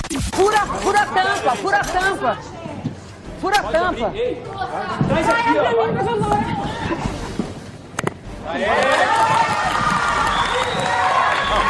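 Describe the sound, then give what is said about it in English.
A MasterChef Brazil studio audience erupts in loud, excited cheering and shouting as a contestant's dad opens her jar of jam, many voices overlapping, swelling into a fuller roar of cheers with what sounds like clapping in the last few seconds. “They're all saying, yay! And get this, round of applause, Nath.”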